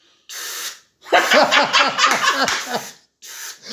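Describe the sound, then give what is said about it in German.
A voice imitates a spray can with a steady, breathy hiss, breaks into a burst of rhythmic laughter, then resumes the airy spraying sound. “Ich kann eine Sprühdose mit meinem Mund nachmachen.”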